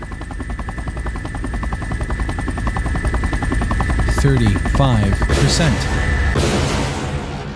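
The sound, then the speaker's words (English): Video game helicopters' rotors chop rapidly and steadily over a high mechanical whine, and midway bursts of gunfire and heavy booms break in, keeping the scene loud and busy. “These choppers should finish me off.”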